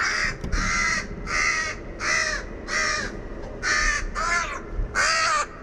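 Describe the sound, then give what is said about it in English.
A crow gives harsh, raspy distress calls, about seven loud caws repeated in a steady, urgent series, with no voices present; the specific distress call a crow makes when it is the victim being attacked by other crows. “And it is very dramatic when it happens because the bird that's the victim produces this really specific distress call.”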